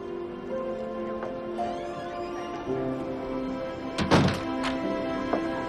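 A front door of an inn opens and shuts with a solid thunk and a brief rattle as someone walks out, followed by a softer knock, all over a steady background of sustained music tones.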